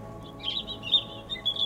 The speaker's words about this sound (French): Un arbre au-dessus de moi, sur lequel est posé un oiseau qui chante.